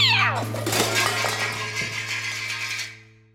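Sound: cat meowing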